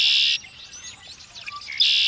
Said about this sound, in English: Red-winged blackbird.